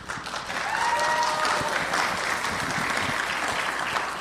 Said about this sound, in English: Please encourage them. Please welcome them with a round of applause and warm hearts, and also with an open ears to receive the message of God.